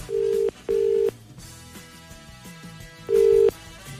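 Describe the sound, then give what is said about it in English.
A phone ringback tone sounds twice in quick succession, pauses, then starts its next double ring: steady, fairly loud electronic beeps with faint music playing underneath. “It's ringing.”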